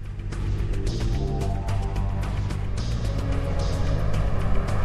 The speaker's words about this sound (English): The van veers off the road and between the concrete pillars of a covered car park.